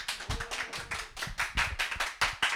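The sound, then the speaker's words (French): Audience applause welcoming three pairs of contestants who are about to present their programmes to become 'president of the world'. A steady run of sharp, fairly loud claps in a quick, slightly uneven rhythm, with no talking over it. “Applaudissements.”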